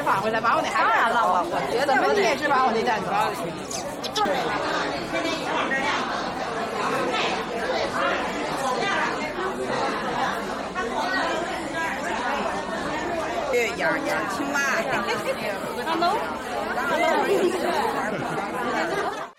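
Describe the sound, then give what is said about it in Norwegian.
Many people chatting at once in a lively crowd of people meeting to talk, play games and meet new people, a steady dense murmur of overlapping voices with no single speaker standing out, holding a fairly even loudness throughout. “Men folk møtes også for å prate. Spille spill. Treffe nye mennesker.”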